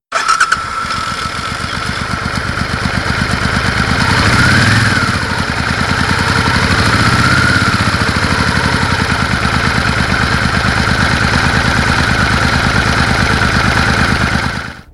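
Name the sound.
motorcycle engine idling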